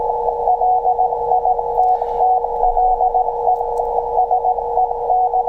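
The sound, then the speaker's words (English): A loud, rapid stream of Morse code beeps fills the whole recording, a high keyed tone at 375 megahertz leaked by a Raspberry Pi's network link set to 1 gigabit to exfiltrate a file, received by radio with faint static and low hum beneath it; no one speaks. “Very nice Morse code. Good signal.”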